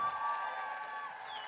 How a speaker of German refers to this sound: Einmal einen großen Applaus für Luisa Neubauer!